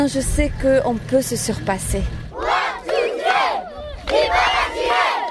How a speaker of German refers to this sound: Viva Algerie, es lebe Algerien, rufen die Kinder am Straßenrand. Sie jubeln den 100 Läufern zu und besonders den 20 Läuferinnen